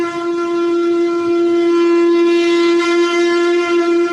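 A single long shofar blast holds one steady, mid-pitched note for about four seconds, loud and brassy with a rich buzzing tone, and no voices are heard.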